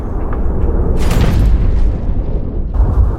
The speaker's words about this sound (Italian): È una giornata di sole. Sono le 10:31. All'Istituto Tecnico Salvemini di Casalecchio di Reno, la routine scolastica viene bruscamente interrotta da un boato fortissimo.